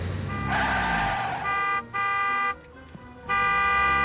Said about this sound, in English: Cars screech to a halt as she jaywalks.